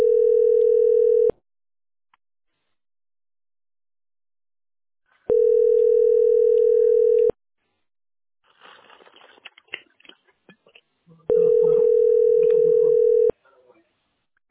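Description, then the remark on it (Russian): A telephone ringback tone sounds three times, each steady, fairly loud buzz-tone lasting a couple of seconds and separated by long pauses, with faint clattering and muffled noises between rings and no answer. “Вот-вот, и сиди и думай, подойдут, не подойдут к телефону.”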